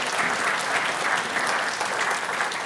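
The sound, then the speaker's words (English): A crowd applauds steadily, a dense wash of many hands clapping at once, sustained and fairly loud throughout without pauses or voices rising above it. “Eden back there is clapping, so we better give my wife another round of applause.”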